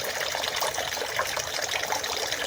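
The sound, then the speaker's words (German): Steady trickling water runs continuously in a shrine purification basin used for washing hands and mouth, a soft splashing flow like a small spout, heard evenly without pauses or voices. “Das mache ich jetzt mal nicht, weil wegen Corona und so das ein bisschen gesperrt ist, aber man kann so trotzdem das Wasser rauschen hören, glaube ich.”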